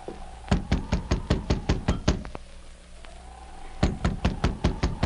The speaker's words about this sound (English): The sergeant repeated his knock.